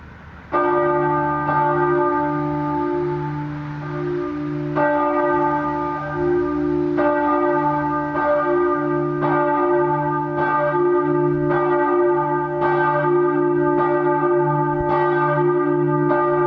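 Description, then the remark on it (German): A church bell rings out from the church tower in Bieberbach in slow, steady strokes, each rich clang overlapping the long humming decay of the last, loud and resonant with no voices. “dass nun für ganz lange Zeit eine Glocke an Adolf Kolping und sein Werk im Bieberbacher Kirchturm erinnern wird”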